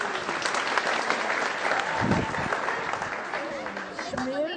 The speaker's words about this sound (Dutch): Applaus voor